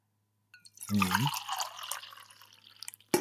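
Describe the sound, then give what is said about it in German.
Herbal tea pours steadily into a cup for about two seconds, a gurgling stream with a brief clink at the start and a sharper knock at the end. “Ich gieße mir mal gerade was ein.”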